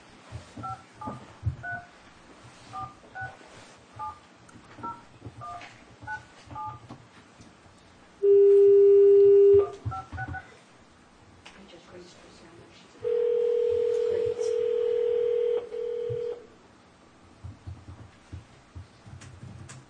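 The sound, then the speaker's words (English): A rapid series of short telephone keypad beeps, dialed one after another, followed by two longer, steady phone tones with brief quiet between them; faint background noise runs underneath. “Okay, just hold on 1 second, Rod, while we're trying to get Barbara on the phone.”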